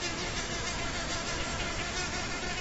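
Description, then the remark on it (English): A mother mud dauber wasp buzzes her flight muscles steadily as she works a pellet of wet clay into a ribbon for the next arch of her tubular nest. It is a continuous, even drone that fills the whole moment without pause. No voices are heard. “While working the clay, she audibly buzzes her flight muscles.”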